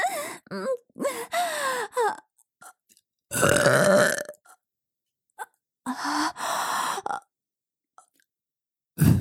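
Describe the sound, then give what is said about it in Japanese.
Several loud burps follow one another, some short and croaky, one long and rumbling in the middle, separated by brief silences, with another starting right at the end. “おしっこゲップ最高です。”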